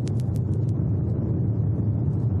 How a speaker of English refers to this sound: So, what I had to do next was build the sound effect from scratch. So, I started with some roaring fire.